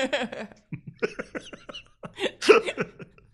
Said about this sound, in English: No, it makes you cough. Hey, I feel like coughing too.